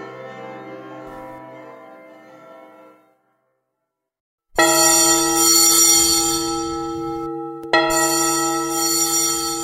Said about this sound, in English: how it swells, how it dwells on the future, how it tells of the rapture that impels to the swinging and the ringing of the bells, bells, bells, of the bells, bells, bells, bells, bells, bells, bells, to the rhyming and the chiming of the bells.